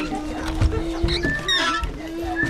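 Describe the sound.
A sheet-metal door leading into a bedroom of a small brick house in the Nakivale settlement creaks and squeals in long, wavering tones that slide up and down in pitch, with a sharper high squeak near the end and some murmuring voices underneath.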